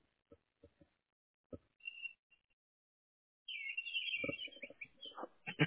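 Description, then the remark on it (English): Birds chirp and trill busily in a dense burst of high, bright calls, preceded by a few sparse clicks and knocks, all fairly faint. “I like the birds in the background.”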